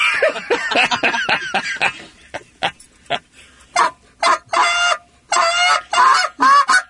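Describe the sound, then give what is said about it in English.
A goose call is blown in a string of honks: rapid, choppy clucks at first, then louder, longer drawn-out honks with short pauses between them, with no talking. “Then that's what the geese hear when you're out there running around.”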